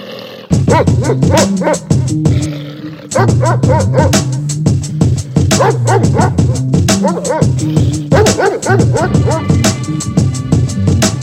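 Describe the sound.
A person imitates a dog, letting out rapid, loud barks and yaps. The barking runs almost nonstop, with a short pause early on and a few whiny, growling tones mixed in.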